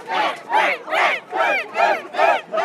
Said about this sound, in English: Those are Spain fans cheering, but also England fans clapping for them.